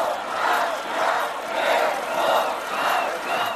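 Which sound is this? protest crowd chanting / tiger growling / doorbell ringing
protest crowd chanting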